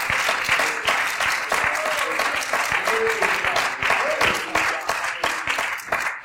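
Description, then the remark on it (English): A church audience claps their hands unto the Lord during a sermon, a dense, steady wash of applause filling all six seconds at a loud, even level, with faint voices murmuring and calling out beneath the clapping. “Oh, I wish you'd clap your hands unto the Lord this morning.”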